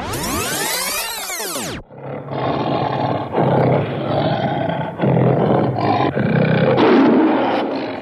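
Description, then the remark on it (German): A large cat roars loudly in several long, rough, rumbling bursts with short pauses between them, opening with a brief rising-and-falling electronic sweep. “Das ist eine etwas größere Katze, die wir da noch gehört haben.”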